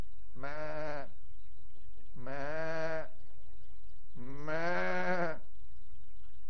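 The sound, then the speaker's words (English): A voice imitates a goat or sheep bleat three times in a row, each call a drawn-out, wavering "baa" about a second long, with short pauses between, fairly loud. “Now, I don't know what kind of noise goats make, so I'm not going to... What kind of... that's a sheep, right?”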